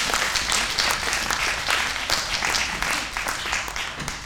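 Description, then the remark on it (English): A crowd applauds steadily for several seconds as an audience volunteer comes up to play a police officer, a dense, even patter of many hands clapping at once with no voices standing out. “Let's give them a clap as they come down.”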